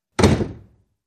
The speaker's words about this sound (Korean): 그러거나 말거나 선언을 마치고 얼굴이 벌개진 채 방으로 올라온 나는 문을 박살낼 듯 세차게 닫았다.